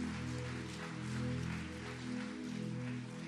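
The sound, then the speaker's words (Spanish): An audience at a Christian worship service claps steadily for the Lord in a dense, continuous wash of applause, with sustained low musical chords ringing underneath the whole time. “Aplauda fuerte porque es para el Señor.”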